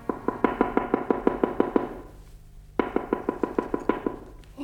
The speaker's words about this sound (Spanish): ¿Alguien llama a la puerta? ¿Miau? ¿Quién puede ser?